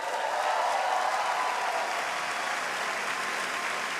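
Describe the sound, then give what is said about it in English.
Steady audience applause, a dense wash of many hands clapping at an even level throughout, with no speech over it. “Veer signals the audience to hold the applause.”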